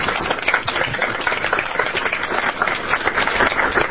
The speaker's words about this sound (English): And it's not customary, but we would like to just applaud you for being here today.